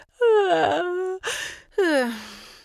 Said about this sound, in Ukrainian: Знову позіхнула.